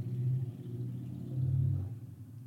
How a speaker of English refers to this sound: Did you hear that? I did. Yeah, I thought it was thunder. First, I thought it was thunder. It was, in fact, sounds like a motorcycle.